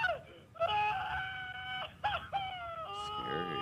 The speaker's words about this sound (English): It's just him laughing. He's screaming. That's screaming.